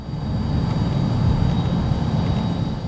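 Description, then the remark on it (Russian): A Yak-40 passenger jet roars steadily as it takes off from a military airfield, a dense low rumble with a thin high engine whine running over it, continuous and unbroken, with no voices. “В 19:00 пассажирский самолет Як-40 вылетел с военного аэродрома.”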